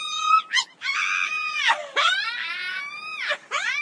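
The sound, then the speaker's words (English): Shrill, piercing screeches of a harpy, a vulture-sized creature with the head and breasts of a woman, in a rapid series of wavering cries that swoop up and down in pitch. Loud, with no voices. “If you're trying to stop us, then you better be ready to fight as well as scream.”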